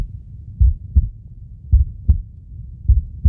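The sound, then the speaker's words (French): A steady recorded human heartbeat, three slow lub-dub pairs of deep, muffled thumps, prominent against a low rumbling background with no voices, from Christian Boltanski's heart archives, which hold about 140,000 heartbeats from many different countries. “Accueilli sur des battements de cœur, ça provoque quoi en vous ce son?”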